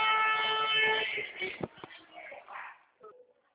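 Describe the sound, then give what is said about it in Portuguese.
A truck horn blares in one loud, steady, brassy blast lasting about a second, sounded in celebration of a closed contract, then gives way to scattered rustling noise and faint, indistinct voices. “Nossa, que é isso? É caminhão?”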